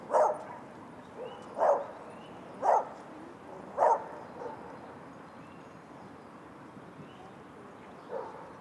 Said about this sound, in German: Wir sind am See. Wir hören Enten, Gänse und Vögel. Wir hören einen Hund.